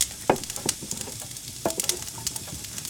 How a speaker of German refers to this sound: Ich muss noch einmal Holz nachlegen.